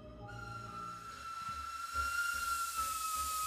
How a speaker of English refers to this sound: To this day, you may hear a friend or neighbor say they've heard the strange chugging of an old steam train from the tracks, but they usually shrug it off to wild imagination or their spirits.